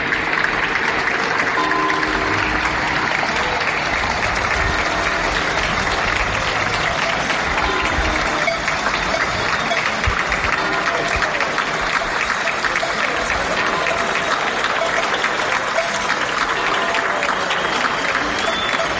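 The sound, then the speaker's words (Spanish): Sustained applause from people on balconies at 8 in the evening, cheering on healthcare staff during a health crisis: many people clapping at once, a dense, steady crackle of hands that stays loud and even for the whole stretch, with faint cheering mixed in. “Todos los días a las 8 de la tarde se escuchan estos aplausos en los balcones.”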